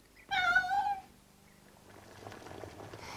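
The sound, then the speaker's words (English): A single clear cat meow, fairly loud, lasting under a second, then quiet with only faint background rustle. “Many witches also had a black cat, a white mouse, a big black raven, a toad, a lizard, or an elf to help them with their bad spells.”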